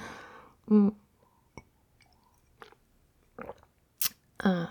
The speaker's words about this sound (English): I need a little sip though. You're making me thirsty.